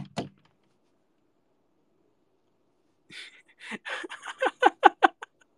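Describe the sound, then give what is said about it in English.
A single dull thud from a thin closet door, brief, then quiet before a quick, uneven run of short breathy bursts builds and fades. “That's one thin door, boy. That's a freaking closet door.”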